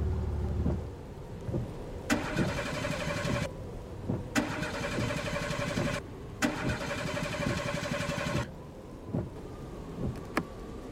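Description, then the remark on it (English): A car engine, pulled over at the side of a road in a blizzard, cranks and sputters in several rough bursts and dies, each burst cutting out abruptly, with a steady low rumble of wind underneath and no voices. “The engine died.”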